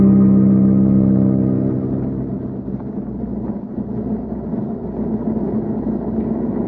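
A steady, loud airplane engine drone hums continuously with a deep, tonal rumble, easing slightly in level after the first couple of seconds but never stopping; no voices are heard.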